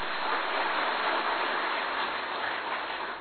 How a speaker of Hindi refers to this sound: जोर से तालियां बजाइए।